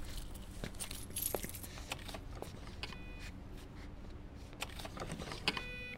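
keys jangling

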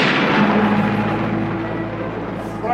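thunder crash

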